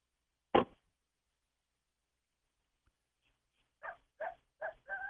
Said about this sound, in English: I don't know if you can hear the coyotes. I can. Yes, we can. Yeah. Are you sure that's a coyote?